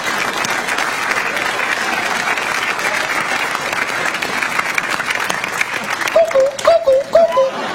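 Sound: cuckoo clock chiming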